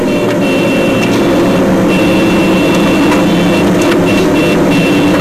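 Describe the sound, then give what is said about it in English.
A Humvee engine drones loudly and steadily from inside the cab while driving and ramming other cars from behind to push them aside, a constant low rumble with a whining mechanical hum. No one speaks. “Again, we're watching from inside a Humvee.”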